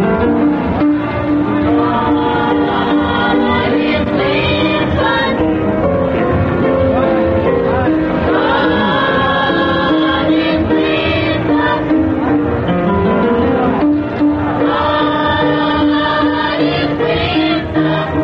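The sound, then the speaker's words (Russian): A children's choir of pupils from a Black religious school sings steadily in full voice, rich sustained harmonies rising and falling throughout, loud with no pauses or talking. “А сейчас вы слышите детский хор воспитанников негритянской религиозной школы.”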